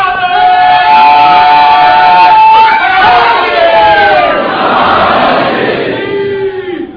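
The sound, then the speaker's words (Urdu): A crowd at a majlis chants the Haidari religious slogan (Naara-e-Haidari) together, many voices holding long, sliding tones in unison that swell and shift pitch over several seconds, loud and continuous throughout. “آپ نے ایک بات غور کی کہ اتنا خوف آ گیا کہ اتنی آہستہ نعرے حیدری کا ڈر اتنا ہے بابا.”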